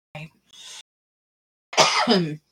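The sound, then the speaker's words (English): Harsh coughing: a short double burst, a pause of about a second, then a longer, raspy, voiced cough that trails off. No talking. “I'm coughing really bad.”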